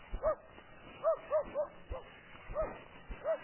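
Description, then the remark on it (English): A dog barks and yips in a quick, uneven series of sharp, high-pitched bursts, moderately loud, with brief pauses between the calls. “I don't know what the dog's after.”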